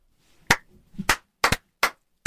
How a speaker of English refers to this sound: So I'm giving that a slow clap into a big clap.